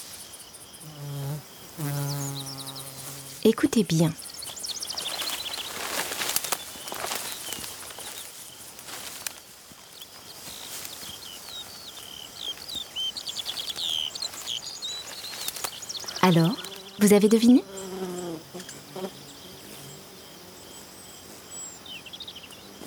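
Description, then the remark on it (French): Steady high-pitched insect chirring fills a meadow, broken by several bursts of rustling swishes like footsteps pushing through long grass. A voice speaks briefly at the start and again near the end. “Vous entendez le bruit des insectes ? Et celui de longues herbes quand on la traverse ?”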